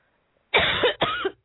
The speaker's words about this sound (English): Hold on a sec. I'm going to dial this and mute my mic and you answer because I'm going to cough up a lung.